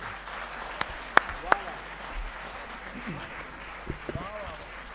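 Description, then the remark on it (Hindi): An audience applauds after a Rajasthani-language song performance, in a steady, moderately loud wash of clapping, with a few sharp, louder individual claps near the start and faint voices rising toward the end. “राजस्थानी भाषा और संस्कृति को माधुर्य आगा गीता में आप सब लोग सुनो, मैं चाहूँ एक बार और जोरदार ताली बजा करके।”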